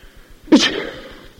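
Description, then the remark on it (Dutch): A small boy sneezes once, a sudden sharp burst that rises quickly and trails off into a breathy decay. It is fairly loud, with no talking. “Het kereltje niest. Het niest. Wat een geluid.”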